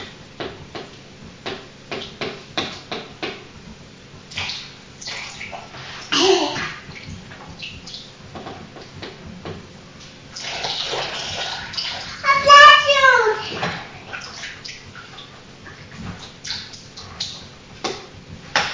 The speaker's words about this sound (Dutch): In het water, in badwater, lekker hoor. Plassen in het water.